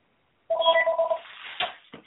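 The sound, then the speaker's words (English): A phone rings during a radio show with a short, bright electronic tone of stacked notes lasting under a second, followed by a rough burst of noise and a couple of sharp clicks. “So you just have to accept, oh, my goodness, I hate my phone to do this.”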